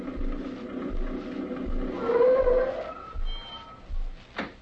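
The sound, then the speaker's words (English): An old truck rumbles as it pulls up at a country general store, its engine chugging in a steady low rhythm with a droning hum and a brief rising whine, ending in a short sharp squeak. “Jed Parsons and I were sitting on the porch of his general store one day when the Martin family pulled up in Sam's old truck. You could have heard it coming a country mile away.”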